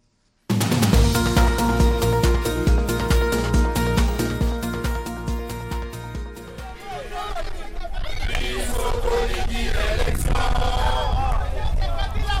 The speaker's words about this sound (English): The singing quickly devolved into angry chanting. Kabila must go, the protesters yelled.